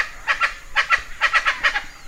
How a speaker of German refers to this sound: Und was ihr hier draußen schon hört, dieses Rumgeschreie, das sind die Chachalacas. Das sind so braune, oder Chacoguans. Ja, jetzt hört man sie gerade.